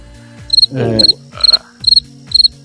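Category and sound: insect, cricket chirping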